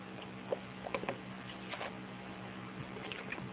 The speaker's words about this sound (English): So give me just a moment, take a sip of water here.